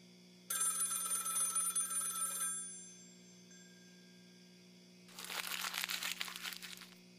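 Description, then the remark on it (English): A bright, rattling telephone bell rings once for about two seconds and stops; after a short pause comes a burst of crinkling, rustling noise. No one speaks. “It's mine. And it would continue to ring. Long after I got rid of that phone. The ringing lived on.”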